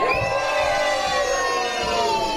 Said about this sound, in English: And then later on, we're going to need you to scream for joy. So let me hear some joy. Ready? One, two, three.